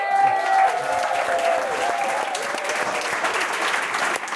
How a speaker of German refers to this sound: Dankeschön. Ein Applaus für die Schule.